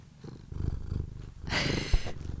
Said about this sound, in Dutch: Net ging Butt wel echt helemaal hard spinnen. Dus ik dacht, misschien wil ze wat zeggen voor de luisteraar.